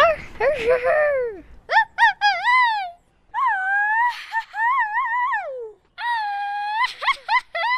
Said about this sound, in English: Mexican-American kids, like the third graders in Machado's class, grow up hearing adults do gritos all the time. But like lion cubs growing into their roar, these kids are still developing their own gritos.